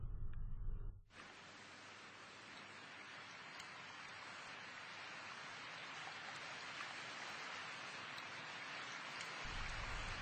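Steady rain falls in a dense, continuous hiss that stays even for the whole stretch, after a brief low rumble at the very start, on a heavy, rainy October day. No voices are heard.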